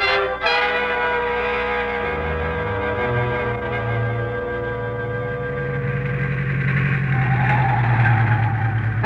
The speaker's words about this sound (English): Some jalopsy, huh, Mr. X? Drives like an aeroplane. No wonder. You haven't had more than one wheel on the road since we left Nogales.